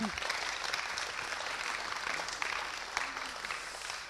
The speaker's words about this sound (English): And I have another team, so do you want to give these guys a round of applause? That'd be awesome.